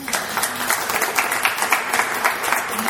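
A crowd applauds steadily, a dense wash of many hands clapping at an even, fairly loud level throughout, with no voices standing out.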